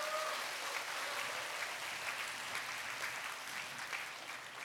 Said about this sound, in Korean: 네, 감사합니다. 여러분 다시 한번 큰 박수 부탁드립니다.